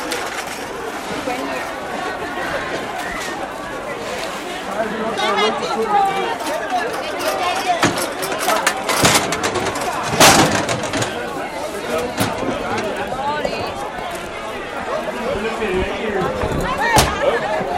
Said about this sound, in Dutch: Er is duidelijk van alles aan de hand hier. Ik sta hier tussen een enorme hoeveelheid van die elektrische voertuigjes van mensen die niet meer kunnen lopen. Die ze ook kunnen lopen. En het is echt zo'n enorme drukte.